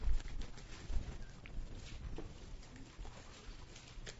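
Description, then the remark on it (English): Many Bible pages rustling and flipping at once as listeners turn to 2 Peter chapter 1, a soft, continuous papery shuffle with scattered crisp flicks, fairly quiet, with no one speaking. “That's got to be my all-time favorite sound, hearing all those Bible pages turning.”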